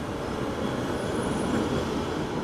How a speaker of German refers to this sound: Da rumpelt die Straßenbahn vorbei, genau wie jetzt im Moment. Wir lassen sie gerade durch.